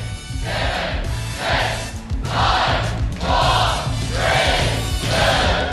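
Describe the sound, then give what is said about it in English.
A large crowd roars and chants the final seconds of a countdown to a deadline in six loud, evenly spaced surges about a second apart, with a steady low hum running underneath throughout. “You can listen to the crowd.”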